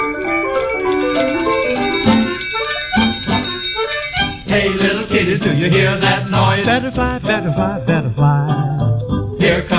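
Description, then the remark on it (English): A hand bell rings repeatedly in quick, bright, loud jingles, layered over a busy musical accompaniment that swells midway through. “Hear him yell, hear his bell.”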